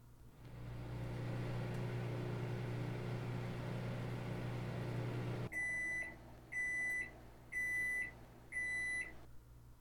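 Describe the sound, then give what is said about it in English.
A microwave oven heating up leftovers hums steadily with a low drone for several seconds, then stops and gives four evenly spaced, high-pitched beeps to signal it's done. “I'll heat you up some leftovers.”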